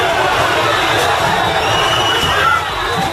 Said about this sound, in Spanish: Fíjate, fascistas italianos han asaltado la sede de la Confederación General Italiana del Trabajo con estos gritos.